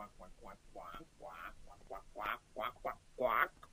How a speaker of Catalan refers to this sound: Allí, dintre l'aigua, hi havia un ànec que sembla que seguia uns cursets de natació.